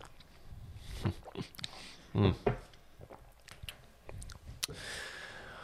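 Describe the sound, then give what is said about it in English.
A sip of hot Chock Full of Nuts coffee, with a couple of short wet slurps in the middle followed by soft mouth and swallowing noises and faint clicks. “One sip.”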